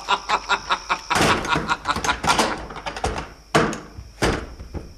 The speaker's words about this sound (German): Heda, aufmachen! Hier sind Leute drin! Da hat einer die Tür zugeschlagen und uns eingesperrt.